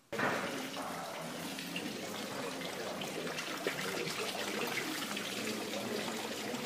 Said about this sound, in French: Quelle particularité pourrait vous permettre de distinguer celle-ci? Est-ce le pépiment des oiseaux? Le gloulottement des fontaines?